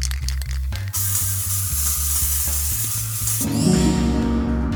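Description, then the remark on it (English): A 16-ounce aerosol spray can with propellant hisses in a long, steady, bright rush that starts after a second and runs for about three seconds over low, pulsing background tones, then changes as other sounds take over. “You can spray your way to a dramatic entrance whenever you feel like it.”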